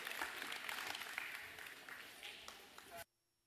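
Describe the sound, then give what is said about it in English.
A crowd applauds steadily for about three seconds, a dense wash of many hands clapping with a few cheers mixed in, before it cuts off abruptly into near silence. “Y'all come give a big round of applause today.”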